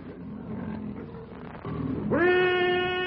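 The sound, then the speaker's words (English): A low, rumbling growl builds for a couple of seconds, then a loud, sustained roar from a huge, half-starved lion launching a rushing charge swells in with a rising, tonal edge and holds strong to the end. “As the fierce challenge of the bull ape rings out to mingle with the lion's roar”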